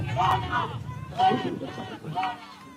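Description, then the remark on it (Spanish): Three people shouting in the distance during Claudia Sheinbaum's appearance in the port of Veracruz, heard as three separate bursts of raised, strained voices over a low background murmur, with no clear words. “Se oyen 3 personas a lo lejos gritando, ¿qué?”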